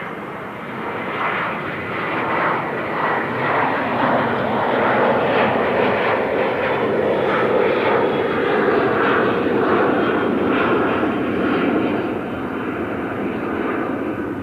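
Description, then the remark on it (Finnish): A propeller airplane drones steadily overhead, its broad engine roar swelling slightly in the middle and easing off toward the end, heard alone without any voices. “Lentokoneita lentää koko ajan yli, niin se lisää jotenkin tätä epätodellista tunnelmaa.”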